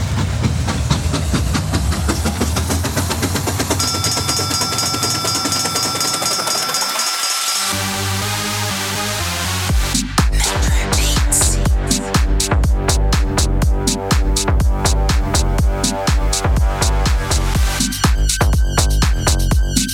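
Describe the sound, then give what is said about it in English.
A steam train about to depart hisses loudly, then starts up into a steady, rhythmic chugging with clanking that grows busier, with no voices. “This train's about ready to move.”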